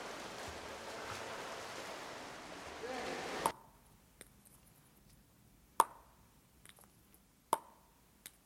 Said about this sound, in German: Klick-Klack macht die Plastikherzklappe im Herzzentrum, als der Professor sie schüttelt. So hört sich eine künstliche Herzklappe an, sagt er.